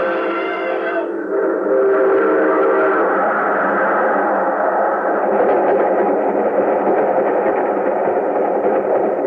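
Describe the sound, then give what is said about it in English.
A loud train whistle blasts at the start, then gives way to a steady, roaring rumble of a train rushing past, continuous and dense with no voices. “There's a train coming.”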